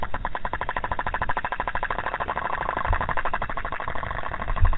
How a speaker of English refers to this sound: After this, they're taken back on shore, where researchers listen and analyze the underwater sounds the microphones have recorded. Here's what a cusk eel sounds like to the hydrophone.